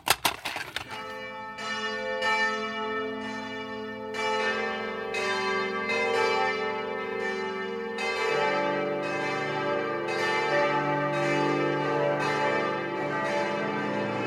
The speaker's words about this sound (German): Die Glocken der Stuttgarter Stiftskirche läuten zu einem ganz besonderen Gottesdienst